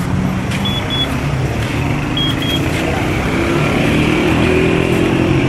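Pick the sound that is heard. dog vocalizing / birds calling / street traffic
street traffic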